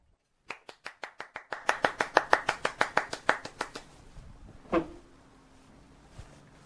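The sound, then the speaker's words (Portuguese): A steady run of about twenty sharp hand claps at a quick, even pace, growing louder midway and then tapering off, followed after a pause by a single dull thump. “aplaudo de pé.”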